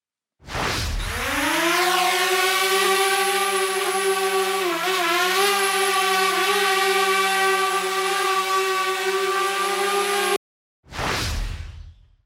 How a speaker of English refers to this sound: I only took 10 seconds of this video because, quite honestly, 10 seconds is enough. But this is just the sound of one drone. Have a listen to this.